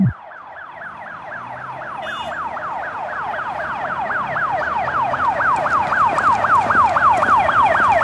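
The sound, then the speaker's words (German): An ambulance siren wails in a rapid, repeating up-and-down sweep, growing steadily louder as it approaches over a low rumble of traffic, with no one speaking. “Ja, pass auf jetzt, da hinten kommt Krankenwagen.”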